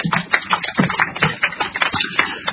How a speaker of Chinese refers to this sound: 请鼓掌祝贺。